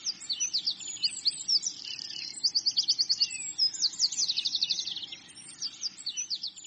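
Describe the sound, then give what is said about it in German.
Several birds sing their morning song at once in a lively, continuous chorus of rapid trills and high tweets, with a soft low rumble of ambience underneath and no voices. “Das Leben erwacht, die Vögel singen ihr Morgenlied.”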